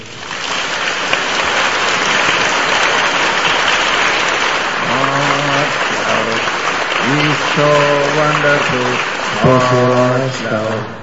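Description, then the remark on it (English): A church audience applauds God steadily and loudly for about eleven seconds, a dense, even wash of clapping. Partway through, several voices rise above it with drawn-out calls or singing. “Let us give a clap for our God.”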